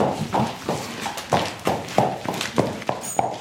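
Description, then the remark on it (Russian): Horses walk along at a steady pace as girls lead them from the pasture to the stable of a vocational school in Bebrene, their hooves clip-clopping in an uneven rhythm of repeated thuds, moderately loud, with no talking. “Сначала девушки отправляются за лошадьми, забирают их с пастбища, а затем уже ведут в конюшню, чтобы подготовить к тренировке.”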